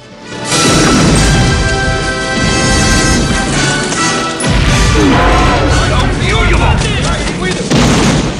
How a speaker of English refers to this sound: Rambo guns down guards, then blows a hole in the prison wall. He runs out through the hole with Hamid over his shoulder.